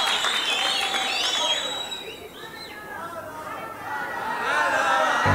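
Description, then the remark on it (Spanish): An audience claps loudly and steadily for God, a dense wash of applause that dips briefly in the middle and swells again, with high whistles and scattered shouts rising over it. “Que si no la tocan, dale un aplauso a Dios fuerte.”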